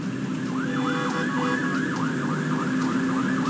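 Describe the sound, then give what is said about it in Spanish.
The siren of an arriving Carabineros police vehicle, recorded live in the morning, wails in rapid, repeating up-and-down sweeps, loud and steady over a constant rumble of engines and traffic noise, with no speech. “Ahí viene llegando la CIA de Carabineros, lo estamos captando justamente en vivo a esta hora de la mañana”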